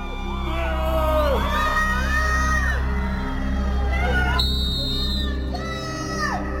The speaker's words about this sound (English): Outside the Virginia courthouse, Depp fans gather to cheer on their hero. Heckling Amber and her witnesses.